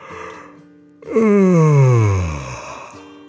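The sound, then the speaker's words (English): A puppy named Pal stretches and gives a big, drawn-out, loud yawn. It starts with a sharp breathy intake and slides steadily down in pitch for about two seconds before trailing off into quiet. “He stretched and opened his mouth wide in a great yawn.”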